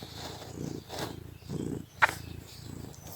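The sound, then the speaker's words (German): A cat purrs in a steady, low rumble that swells and fades with each breath, roughly once every second, with a brief sharp click partway through. “Nun kommt meine Katze wieder ins Bild.”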